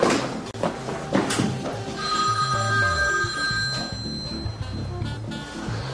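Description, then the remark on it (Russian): A telephone bell rings clearly and steadily, its bright harmonic tone sustained over several seconds, with a low rumble and faint background noise underneath; no one speaks. “Через 20 секунд ответь.”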